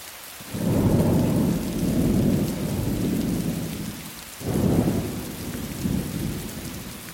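Steady rain hisses throughout while deep, rolling thunder rumbles in long low swells, fading briefly before another loud roll builds. No one speaks.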